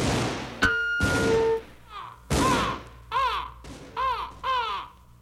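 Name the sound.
crow cawing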